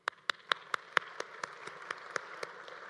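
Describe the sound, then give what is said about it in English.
The audience of Central Baptist Church applauds itself in a steady, even rhythm: about a dozen sharp, crisp claps in quick succession, loud at first and gradually softening, with no talking. “In fact, give yourselves an applause.”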